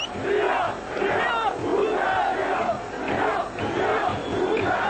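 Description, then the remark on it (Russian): A large crowd of about 10,000 opposition supporters shouts and chants together on the streets of Budapest, demanding Gyurcsány's resignation, a dense, continuous roar of many voices that swells in rhythmic waves of loud, rising cries. “Накануне около 10 тысяч сторонников оппозиции вышли на улицы Будапешта, требуя отставки Гюрчаня.”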